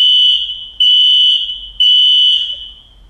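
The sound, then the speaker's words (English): A fire alarm blares with a loud, piercing high-pitched tone, repeating in three long pulses about a second apart with brief gaps between them. No one speaks. “Do you pay someone to set off the fire alarm?”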